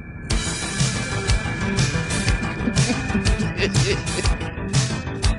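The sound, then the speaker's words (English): A 1980s TV helicopter series theme plays on its own, loud and steady, with sustained synth tones over a driving beat of regular, punchy drum hits and bright cymbal bursts. “Now, see, this sounds more like Knight Rider.”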